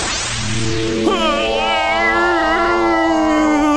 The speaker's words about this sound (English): Pardon the yawn. I'm just getting a little tired from all this interrogation.